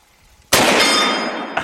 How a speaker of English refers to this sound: I'm going to shoot just a couple of the hard steel plates over there